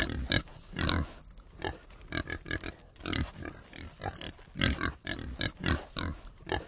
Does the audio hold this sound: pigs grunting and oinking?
yes